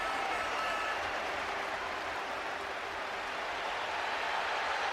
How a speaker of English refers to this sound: It's getting better and better for Arsenal because the applause for Dennis Bergkamp has got even more intense because West Ham have gone 2-1 up against Tottenham at Upton Park.